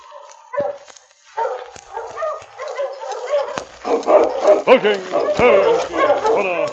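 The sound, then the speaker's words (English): Sergeant Preston's team of sled dogs, led by his big lead dog King, barks and yips excitedly as it stops in front of a cabin, starting with scattered calls and swelling into a dense, overlapping chorus of loud barking toward the end. “When Sergeant Preston stopped his team in front of Sam's cabin, King, his big lead dog, walked at his side toward the door.”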